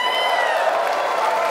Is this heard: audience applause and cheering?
yes